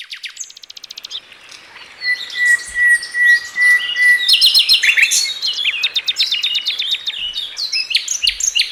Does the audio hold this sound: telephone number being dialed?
no